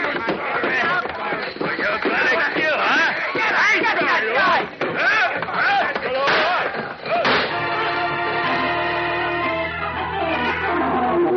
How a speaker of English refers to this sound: Like a man gone berserk, the giant Boris first smashes Leo to the floor with a chair, and the gunman's shots go wildly into the walls.